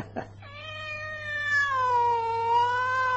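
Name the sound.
cat meowing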